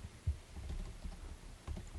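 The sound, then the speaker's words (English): Keys clack on a computer keyboard in short, irregular bursts, fairly quiet, with a few louder taps standing out and no voices. “Everybody's hearing me talk typing? Right now.”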